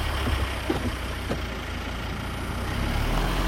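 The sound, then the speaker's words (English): Ron's truck engine rumbles steadily outside Eva's house, a low, constant drone with no voices, holding at an even level and swelling slightly near the end as the truck pulls away. “A little later, Ron's truck pulls up outside Eva's.”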